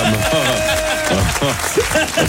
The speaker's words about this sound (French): Je vais appeler en premier et je vous demande de l'applaudir comme il se doit, bien sûr, le Daniel Craig de l'After.